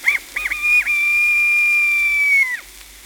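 A little bantam rooster's shrill crow after feeding with the hens: two quick clipped notes, then one long, high, steady note that wavers slightly and drops away at the end. Loud and alone, with no voices.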